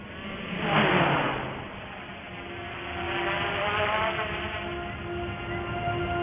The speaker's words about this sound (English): Sending in Big Barry. You not Big Barry? He's our surveillance drone. Ah, so you send the drone in. Let's fly.